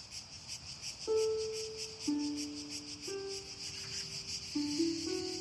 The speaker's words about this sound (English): She dressed and went out into the garden. The summer night was still and light, and the only sound was the hum of the cicadas.